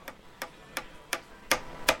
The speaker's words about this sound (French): Un marteau. Qui tape un clou. Bonne réponse.